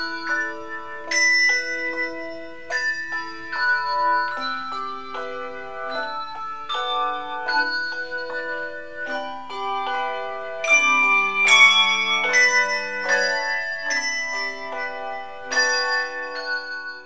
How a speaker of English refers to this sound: You can see the Bells of St. Vrain Handbell Ensemble in action the third Sunday of every month at the First Congregational United Church of Christ in Colorado Springs.